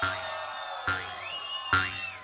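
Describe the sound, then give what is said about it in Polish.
A club crowd roars and cheers in three rising surges about a second apart, with whoops and sustained high shouts riding over a dense wash of voices, as DJ Chris Manieczki is announced. “O, jak jeżeli będziecie tak krzyczeć, to na pewno chyba nie stanie.”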